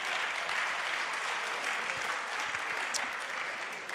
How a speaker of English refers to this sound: That's the end of my sermon number one. Why don't you give that a round of applause, because it's finished.